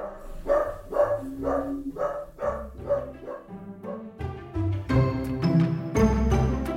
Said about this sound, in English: That's my little wiener dog. His name is Walnut. Walnut, that's enough, buddy.